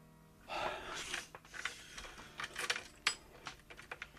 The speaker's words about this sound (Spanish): Una respiración se oía tras la hoja de madera. El cerrojo poco a poco iba dando vuelta. Alguien había introducido una llave.